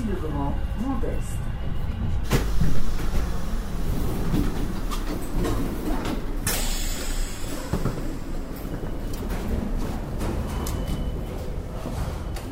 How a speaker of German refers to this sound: Wir sind jetzt aus dem RER-Bahnhof ausgestiegen, stehen jetzt draußen, allerdings überdacht mit einer relativ eigenartigen Betonkonstruktion. Treppen führen nach oben mit gelben Treppengeländern, eine Rolltreppe.